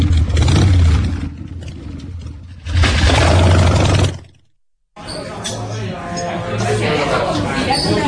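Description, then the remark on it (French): A motorbike engine sputters and revs in loud, rough bursts, cuts out briefly to silence, then coughs back to life and keeps chugging unevenly, as if struggling to start. “Le moto a du mal à démarrer là aujourd'hui.”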